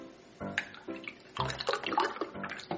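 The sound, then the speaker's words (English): Chocolate milk glugs and splashes as it is poured into a glass, an uneven stream of gurgling bursts that grows fuller and busier toward the end, with no voices. “I'm gonna pour me some chocolate milk just like Mommy taught me.”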